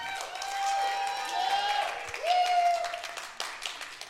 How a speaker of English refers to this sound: 33 years we've been married. I've known her 34 years. I love her. Oh, you don't have to clap.